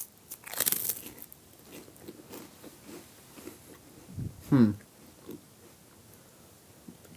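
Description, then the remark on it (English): A crunchy snack being bitten and chewed: a loud, crisp crunch at the start, softer scattered crunching, then another sharp burst of crunching partway through, with faint voices murmuring in the background. “Oh, are we eating it now?”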